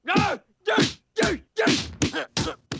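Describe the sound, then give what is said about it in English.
A fist pounds a slab of meat in about seven heavy, fleshy thwacks at a steady, quick rhythm, each blow loud and accompanied by a voiced grunt or groan: Krusty punches the meat while Homer eats it. “Krusty punches meat while Homer eats it.”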